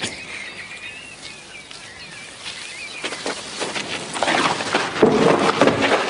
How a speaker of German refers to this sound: Dann höre ich auf einmal wieder Vogelgezwitscher